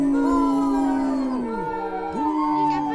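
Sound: wolf howling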